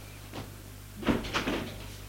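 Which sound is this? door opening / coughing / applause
door opening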